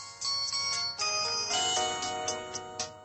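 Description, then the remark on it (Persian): A bright, electronic mobile phone ringtone plays a quick melodic phrase of high tonal notes, steady and fairly loud, with no voices over it. “همزمان با گسترش تکنولوژی تلفن همراه، مشاغلی از جمله خرید و فروش سیم کارت های نو و دست دوم، اجاره موبایل، خرید و فروش گوشی، مراکز خدماتی تلفن همراه و حتی ساخت آهنگ و زنگ‌های مختلف برای موبایل یک حرفه رسمی در ایران به حساب می‌آید.”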